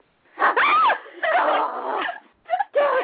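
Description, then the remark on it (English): A puppy lets out a string of high, whiny yelps and whimpers in quick bursts, with short pauses between, fairly loud and with no other sounds around it. “I got to get my puppy.”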